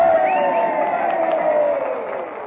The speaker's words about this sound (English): And now that the cheers are dying down, we're about to hear the acceptance speech of our candidate, the Honorable Gracie Allen.